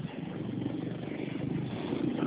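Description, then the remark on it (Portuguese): Steady, muffled rumble of passing car traffic around a man taking a phone call. It is continuous and fairly even in loudness, with no voices, heard through a narrow, phone-like channel. “Opa, pode falar, porque tem barulho de carro aqui, só carro.”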